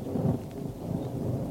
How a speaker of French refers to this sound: L'orage, elle s'approche du bord.